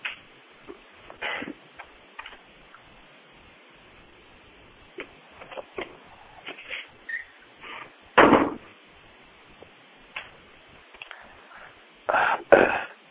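A front door being answered and opened: scattered clicks and light knocks, then a couple of louder latch-like clatters, with no one speaking.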